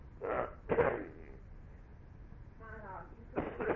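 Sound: dog sniffing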